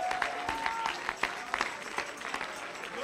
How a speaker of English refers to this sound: Come on, clap your hands. Lift up your voice.